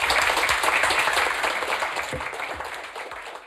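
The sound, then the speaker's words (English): A crowd applauds the guest speakers steadily, a dense wash of many overlapping hand claps that stays loud throughout and eases off slightly toward the end. “And let's have a round of applause for these guys.”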